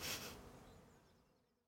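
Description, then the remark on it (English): A soft, steady drone of honeybees buzzing around an opened hive as the crown board is put back, starting with a brief brighter rush and then fading gradually, with no voices. “And now we put the crown board back. Yes. You'd make a very good beekeeper.”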